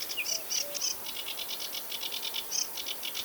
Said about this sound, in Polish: Ale w trzcinach spotkamy też rokitniczkę, ptaka, który trochę mi przypomina drukarkę fiskalną. Cały czas trekocze, czasem coś popiskuje.